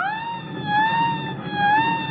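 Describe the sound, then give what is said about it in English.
A submarine collision alarm blares continuously as an enemy ship turns in to ram the submarine, a loud, buzzy, steady tone whose pitch wavers slightly up and down, over a low rumbling background with no voices. “Sound the collision alarm.”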